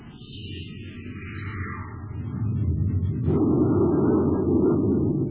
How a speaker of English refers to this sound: Fire a space torpedo close to his port side, Hap. Let him know we mean business, too.